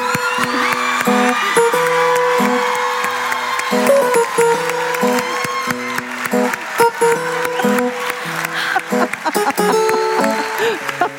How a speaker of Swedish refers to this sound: Varmt applåd!